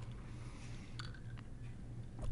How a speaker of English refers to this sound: I'm going to take a sip of my booze because I can do that whenever.